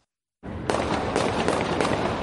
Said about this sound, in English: You could hear the gunfire erupt in downtown Louisville.